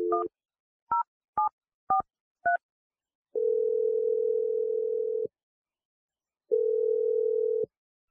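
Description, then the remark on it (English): Five short dual-tone beeps of a phone number being keyed in on a telephone, followed by two long, steady ringback tones separated by a pause, as a call is placed from the radio show Brooke and Jeffrey in the Morning. Clear, with no voices. “I'm going to dial Lena's phone number right now.”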